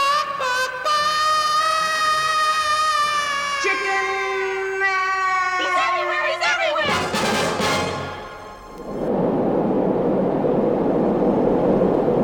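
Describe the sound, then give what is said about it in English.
A sustained brassy musical fanfare gives way to a steady, loud roaring drone of a commercial jet airliner's engines in flight high in the sky at night, continuous and even through the final seconds with no talking. “It's night, aboard a commercial jet airliner, aloft high in the sky.”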